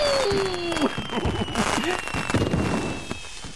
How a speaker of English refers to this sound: So, guess what Daddy's got planned? Indoor fireworks!